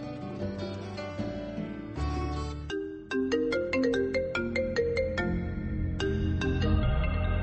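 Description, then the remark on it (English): A phone ringtone plays a bright, repeating electronic melody of quick plucked notes, continuous and fairly loud for several seconds, with no voices over it. “Hearing the phone someplace here”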